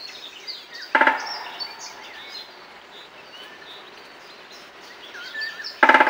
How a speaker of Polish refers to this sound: A my dzięki temu i dzięki także nagraniom Macieja Prędkiewicza, specjalisty służby leśnej z terenu nadleśnictwa Sobibór, mamy szansę wsłuchiwać się i porównywać tak naprawdę, jak brzmi ten dzięcioł uderzający w latarnię.